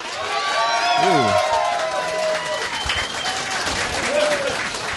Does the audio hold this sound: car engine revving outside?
no